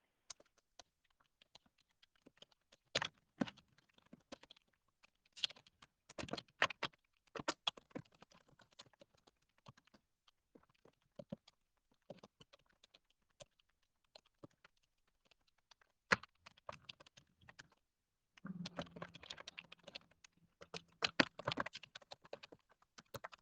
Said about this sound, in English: Sorry about that. I type very, very, very fast. I'm typing about 140, 160 a minute.